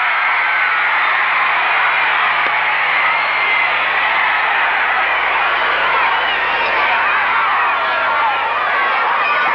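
A large crowd screams and cheers without pause, a dense, high-pitched wall of shrieking voices that stays loud and steady throughout, with no single voice standing out.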